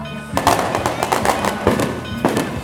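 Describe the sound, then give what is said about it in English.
Fireworks go off during a New Year's celebration procession in Alter do Chão's central square on the last Sunday of 2015. A quick, irregular string of loud, sharp bangs and crackling pops, roughly a dozen bursts over a couple of seconds, with a faint steady ringing tone beneath. “Sounds of church bells and fireworks blend together as a procession gets underway, all part of a New Year's celebration, which stretches out”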